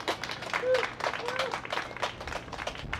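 An audience applauds steadily for about three seconds, a dense patter of many hands clapping at once, with a brief whistle or cheer rising above it.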